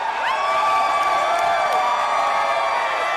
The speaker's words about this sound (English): Signs warned people not to smoke marijuana on the premises, and the diverse crowd mingled and sat at tables with balloons. Everyone cheered as the results came in.